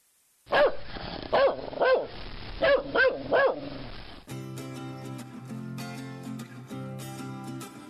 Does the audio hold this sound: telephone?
no